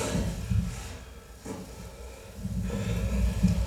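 Raw sound from a performance video: a performer's heavy, noisy breaths rise and fall in slow waves, with a snort-like rush of air and the soft rustling of a silver costume and sounds of the wooden stage underneath, recorded loud; no one speaks.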